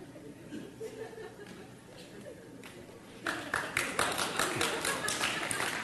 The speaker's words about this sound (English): Are you clapping in favor of that philosophy or not?